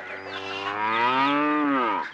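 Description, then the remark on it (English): A single long, loud cow moo with a steady low harmonic drone that swells and then tails off after about two seconds, heard alone without any talking. “A cow.”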